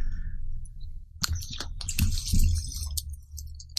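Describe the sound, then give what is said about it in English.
Rosé wine from a screw-top bottle glugs and splashes into glasses, a quiet moment giving way to a burst of irregular liquid sloshes and light clinks, with no one speaking. “Pour a little for you guys.”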